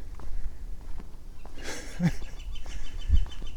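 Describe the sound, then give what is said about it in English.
A flicker perched in a tree calls outdoors, a short burst of sharp, harsh notes near the middle, then fainter repeated calls over a low, rustling background. “We got some yappy bird up here. Yapping and trapping. I wonder who it is. I'm guessing it's Mr. Flicker.”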